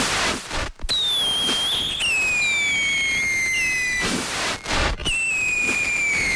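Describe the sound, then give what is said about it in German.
Loud New Year's Eve fireworks crackle and bang in bursts, with shrill descending whistles from rockets streaking overhead, rendered as pets such as cats probably hear them. The piercing high whistles dominate, sounding sharp and unpleasant, with no voices. “Haustiere, Katzen zum Beispiel, hören ihn wahrscheinlich eher so.”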